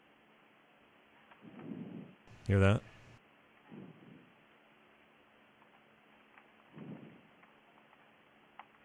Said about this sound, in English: Somebody called and heavy breathed for 42 seconds. Should we be concerned about this?